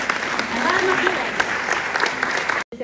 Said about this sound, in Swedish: Nu får ni öva upp lite värme här och röra er lite grann genom att klappa för dem.